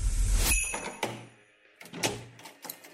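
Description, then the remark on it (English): A door is rattled and thumped several times in a row, with heavy irregular knocks and scraping as someone struggles to get it open, fairly loud. “What is wrong with this door?”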